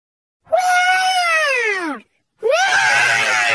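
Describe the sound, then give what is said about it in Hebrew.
A voice imitates a dinosaur roar in two loud, drawn-out bursts: the first slides downward in pitch, and after a short pause the second rises, then holds as a raspy scream. “למה אתה שואג? אני דינוזאור!”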